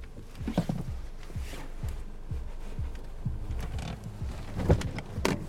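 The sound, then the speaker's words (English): A car handbrake is pulled on with a ratcheting creak after parking on dark open ground at night, followed by the click and slide of a seatbelt being unbuckled inside a quiet car over a low rumble. “He pulls on the handbrake and takes off his seatbelt.”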